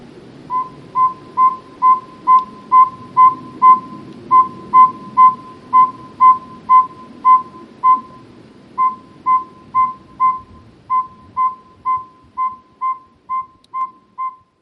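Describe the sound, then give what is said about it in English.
Saw-whet owl calls: a long, monotonous series of clear whistled toots, roughly two per second, repeating steadily over a soft low background rumble. “Today's phonology is about the little saw-wet owls.”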